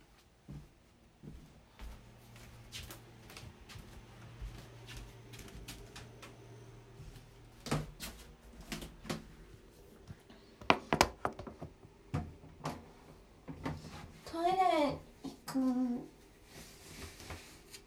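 Soft footsteps thud and click across a wooden hallway floor as someone walks to the toilet after waking up. Near the end the boards let out two drawn-out, wavering creaks underfoot, fairly quiet, with no talking.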